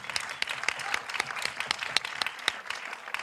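An audience applauds steadily, many hands clapping in a dense, crackling wash with sharper individual claps popping out, sustained at an even moderate loudness throughout.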